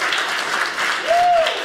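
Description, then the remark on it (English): An audience claps steadily for under two seconds, a dense even patter of many hands, with a single short whistle cutting through near the end. “Clap if you heard of Space Force.”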